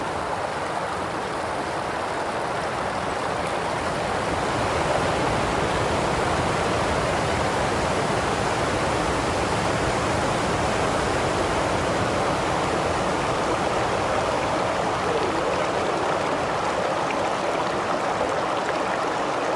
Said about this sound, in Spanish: Las cataratas se ven ya abajito, de abajito lo vamos a ver.